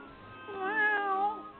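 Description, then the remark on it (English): A single drawn-out cat meow that rises and then falls in pitch, heard clear with no talking, over a faint low background hum. “Oh, it's a cat.”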